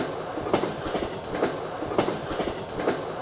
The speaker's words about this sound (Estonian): Reisisime platskaardiga vagunis, kuhu mahub oma 50 inimest